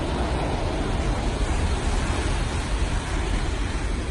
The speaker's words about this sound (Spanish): Y quiero que escuches algo. Es como suena la llegada de las olas a la orilla de esa playa. Es un sonido real, ¿eh? Un sonido que ha grabado la dueña del único kiosco que hay en la playa.